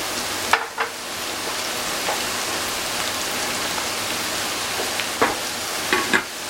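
A steady, dense bubbling hiss of meat come to a boil over gentle heat in a pot with about half a litre of water and no salt, with a few sharper pops and clicks standing out now and then; no voices.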